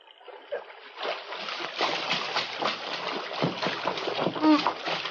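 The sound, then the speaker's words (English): Water splashes and sloshes continuously in a creek as a man is pulled out of the water, a busy, churning spray with a few heavier surges and a brief vocal sound near the end. “Help me put him out of the creek before he drowns.”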